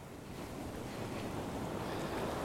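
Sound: ocean waves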